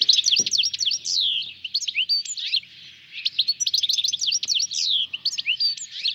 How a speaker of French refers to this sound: Tiens, je vous propose d'écouter le chant du chardonneret élégant.